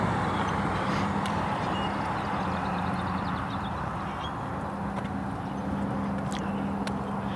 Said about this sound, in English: Lots of traffic here.